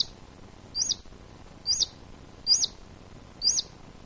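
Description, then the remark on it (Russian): A ground squirrel's sharp alarm whistle repeats four times at a steady pace, each a brief high-pitched chirp rising and falling, clear over a quiet background with no talking. “Однако вот эксперименты показывают, что если, например, наземный хищник выскочит резко, или, например, в суслика бросить шапкой, сделать другое резкое движение, он свистит.”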